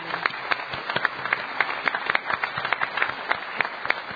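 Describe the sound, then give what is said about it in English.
A crowd applauds the town staff, many hands clapping in a dense, irregular patter that holds at a fairly even level for several seconds, with no voices standing out. “The biggest thing I want to say is a huge round of applause and thanks to our town staff, led so ably by the people on stage and everybody here.”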